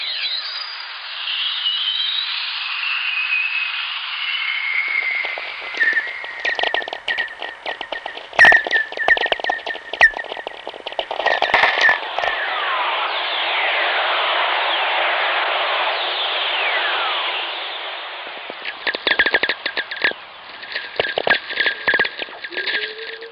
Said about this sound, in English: Today, we know Earth Whistlers are made by the interaction of lightning with the planet's magnetic field. And since there are millions of lightning strikes a day, there's nearly a constant chorus around Earth.